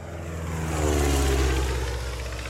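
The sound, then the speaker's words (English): A propeller airplane engine drones steadily and loudly, a deep rumbling hum with a whirring edge that swells slightly midway, heard alone without any voices; the plane from which Hammarskjöld disembarked in New York to take office at the UN. “A few weeks later, the Swede with the unpronounceable name disembarked from the plane in New York to take office.”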